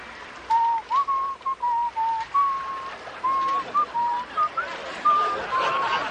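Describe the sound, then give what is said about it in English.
Someone out on the water whistles a simple melody in clear, pure tones, a run of short and held notes grouped into phrases with brief pauses, over a soft background hiss. “Cappy Johnny, the old sailor who taught me how to sail, used to whistle it all the time.”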